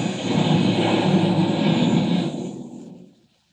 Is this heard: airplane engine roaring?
yes